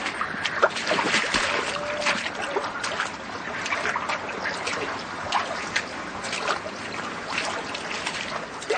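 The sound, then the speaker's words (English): Water sloshes and splashes steadily as someone wades through flood water that rose suddenly, with repeated churning bursts and no one speaking. “The water came up so sudden.”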